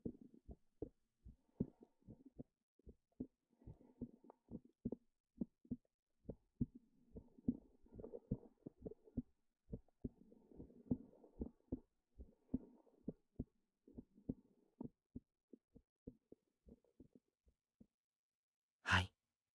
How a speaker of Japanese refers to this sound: 静かに、深く、深呼吸。心臓の音を確かめて。